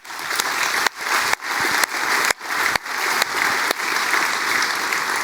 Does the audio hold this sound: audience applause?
yes